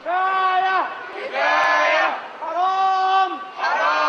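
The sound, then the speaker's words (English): A large crowd of protesters against Mubarak chants in unison, shouting the Arabic word for enough, "kafaya", over and over in a steady rhythm, about four loud, sustained bursts with brief pauses between them. “Suddenly, the demonstrations took on a new tone as protesters campaigned explicitly against Mubarak for the first time, shouting the Arabic word for enough, kafaya.”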